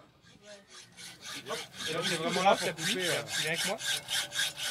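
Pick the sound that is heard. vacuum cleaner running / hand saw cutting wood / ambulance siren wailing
hand saw cutting wood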